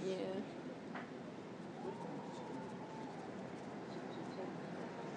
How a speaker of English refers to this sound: Oh, train! Train! It's a train! Hooray, hooray, hooray, hooray, hooray, hooray. I thought it would never happen, but it did.